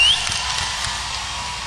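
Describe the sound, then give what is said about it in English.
A crowd applauds the performers, clapping in a steady, dense wash of applause that holds at an even, fairly loud level throughout, with no voices rising above it. “Come on, let's hear it one more time for these guys here.”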